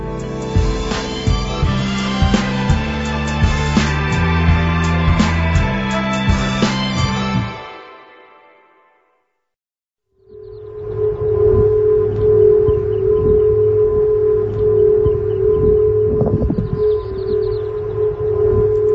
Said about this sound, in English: You're actually listening to a recording of San Francisco's Golden Gate Bridge making a whistling noise during high winds in June of 2020.